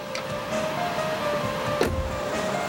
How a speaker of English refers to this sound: As the car pulls away, she contemplates the house with dismay. Resigned, she steps toward it.